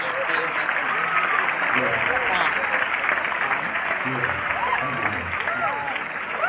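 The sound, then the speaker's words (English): An audience claps steadily for several seconds, a dense, continuous patter of many hands at an even, fairly loud level, with scattered voices and chatter mixed into the applause. “It's like, yeah, clapping's nice, but you got to know when to quit.”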